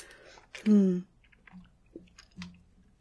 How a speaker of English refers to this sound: A little sip of water there. My mouth is dry because the rest of me is not.